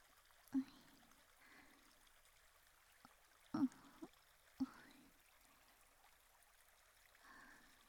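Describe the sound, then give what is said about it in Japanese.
A small stream trickles softly and steadily, with a few brief louder splashes or drips standing out now and then against the gentle running water. “こうやって小川でちょっとだけ涼んだだけでもだいぶ涼しくなりましたか？”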